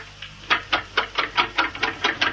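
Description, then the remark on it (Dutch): A small electric shaver, started up in a studio to shave someone, sputters as it runs like a motorcycle setting off, its motor buzzing in quick, rapid pulses about five times a second rather than a steady hum, moderately loud with no voices. “een scheerapparaat. Of er een motorfiets vertrekt.”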